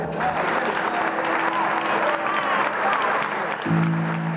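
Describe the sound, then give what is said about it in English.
A crowd of citizens applauds inside a courthouse, a dense, steady wash of clapping that stays loud for several seconds, with some murmuring voices and a low hum underneath. “A crowd of citizens were waiting inside the courthouse.”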